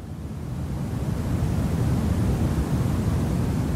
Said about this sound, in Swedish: man köper en liten maskin som för 800 spänn som gör brus